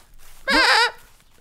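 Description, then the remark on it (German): A single goat bleat rings out loud, a wavering, quivering cry lasting about half a second, with no one speaking. “Oh, die Ziegen.”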